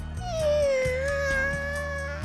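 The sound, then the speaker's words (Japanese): A kitten, stepped on while sleeping on the ground, gives a thin, high-pitched mewing that holds for about two seconds, wavering slightly in pitch over a low, steady background hum, fairly loud and with no talking. “え、子猫だ。”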